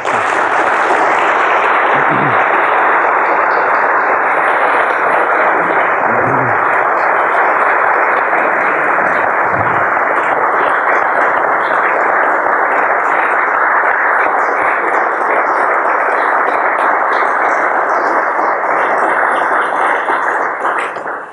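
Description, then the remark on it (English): An audience applauds steadily for about twenty seconds, a dense, even wash of many hands clapping at a constant loud level, tapering off only at the very end. No one speaks over it. “Applause indicates how much you enjoyed it, so now comes the second half.”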